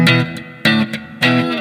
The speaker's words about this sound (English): And so the guitar, clean signal, sounds like this.